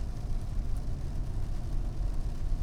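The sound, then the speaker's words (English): Heavy rain pours down on a dreary Monday in a steady, dense wash of hiss with a deep low rumble underneath, continuous, with no voices or breaks. “Listen to the rain coming down, pounding down on us on a fucking dreary, drizzly, actually pouring rain Monday.”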